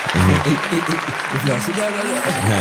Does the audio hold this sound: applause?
yes